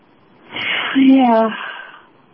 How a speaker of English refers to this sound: I'm yawning. Can you hear me yawning? I can